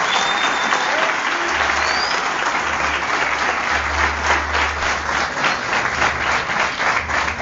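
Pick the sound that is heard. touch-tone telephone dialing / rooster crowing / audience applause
audience applause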